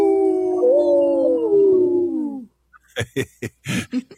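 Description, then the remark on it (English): A single long wolf howl, sustained and smoothly sliding slightly downward in pitch for a couple of seconds, cuts off and is followed by a few short, sharp bursts of sound. “This portion of the show is supported by Howling for Wolves, protecting wolves for future generations.”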